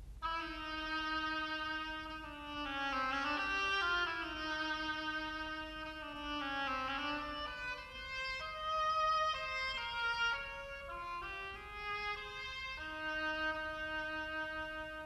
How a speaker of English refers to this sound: The Duck by an oboe.